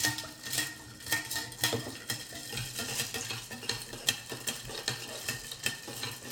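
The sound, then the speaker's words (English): A drink of lemon juice and raspberry syrup being stirred, with a steady run of bright, rapid clinks and scrapes against the glass for several seconds, moderately loud and without any talking. “Now let's stir this up.”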